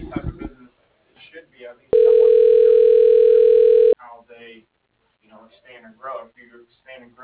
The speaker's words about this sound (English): It's ringing.